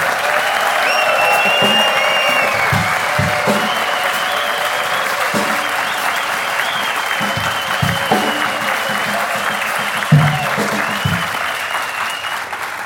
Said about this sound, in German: Den Applaus für das.